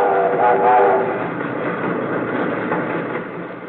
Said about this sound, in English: Where is this train going? It is headed westward, is it not?